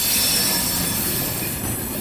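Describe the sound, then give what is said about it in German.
Freight cars roll over the rails of a shunting yard with a steady, loud grinding rumble, overlaid by a high, sustained metallic squeal from the track brakes mounted between the switches, which stop the freight cars from rolling quickly down the hump. No one speaks. “So ein Rangierbahnhof macht ziemlich Lärm, vor allem um die Bremsen, die zwischen den einzelnen Weichen montiert sind.”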